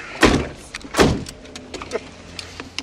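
A car door clunks loudly twice in quick succession, opening then slamming shut as someone gets into the car, followed by a few faint clicks and rattles, with no talking.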